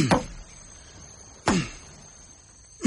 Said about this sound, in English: I have not finished chopping this wood yet.